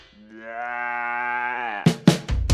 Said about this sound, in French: Laissez-moi vous présenter, oh, Cindy la brebis.